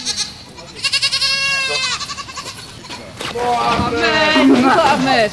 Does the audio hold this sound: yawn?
no